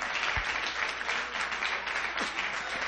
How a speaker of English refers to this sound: Clap your hands to the King of Kings and the Lord of Lords.